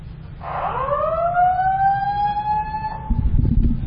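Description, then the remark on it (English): A fire alarm siren winds up from a low pitch into a loud, steady wailing tone with rich harmonics, over a low rumbling background that swells into a noisy burst at the end. “Who puts the fire alarm?”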